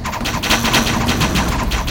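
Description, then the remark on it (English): A rapid, steady volley of sharp thudding impacts as many arrows fired by Cao Cao's soldiers strike the grass on boats one after another, loud and continuous for about two seconds with no voices. “The arrows all hit the grass of the boats.”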